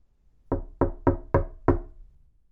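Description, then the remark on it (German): Five firm knocks on the wooden door of a house in a quick, slightly uneven rhythm, fairly loud, with quiet room tone before and after and no voices. “Der Wolf aber lief geradewegs zum Haus der Großmutter und klopfte an ihre Tür.”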